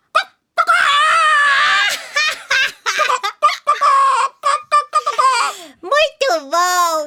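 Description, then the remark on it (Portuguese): Several high-pitched voices of people imitating a chicken squawk and cluck in quick, choppy bursts, loud, with brief shrieky calls and sliding cackles mixed in, as part of a call-and-response game. “Seu rei mandou dizer que todo mundo imitasse uma galinha!”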